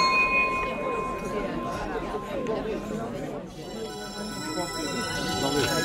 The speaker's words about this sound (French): Mais à 14h, on sonne la cloche, la réunion est terminée.